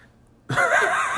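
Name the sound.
burp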